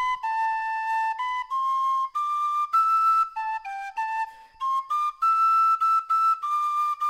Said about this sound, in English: Our theme music is Nova Scotia Farewell, a traditional tune performed on the penny whistle by the author of these stories.